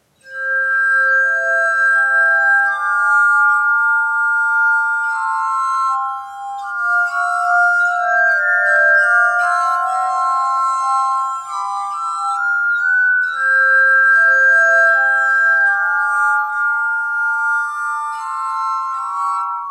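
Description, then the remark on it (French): A glass harmonica plays Mozart's slow Adagio in C major, its pure, ringing tones sustained and overlapping in a gentle, flowing melody with soft chords, heard alone without any voices. “les premiers concerts ont lieu en février 1762 avec, aux manettes, enfin en tout cas au bol de cristal, Marianne Davis.”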